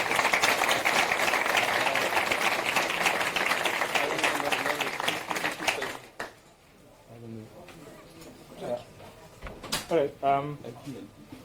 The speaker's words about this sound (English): Yeah. Maybe give them a big round of applause and then.